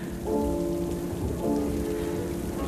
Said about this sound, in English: runs on through the streaming rain.